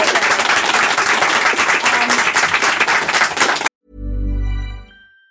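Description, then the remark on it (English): A dense, steady round of applause from an audience, many hands clapping loudly for several seconds before cutting off abruptly, followed by a brief low droning tone that swells and fades. “Thank you so much. Round of applause.”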